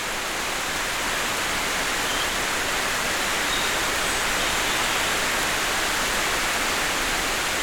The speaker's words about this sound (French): Juste 3-4 minutes après les sonnailles des vaches gasconnes, tout à coup, une ondée de pluie.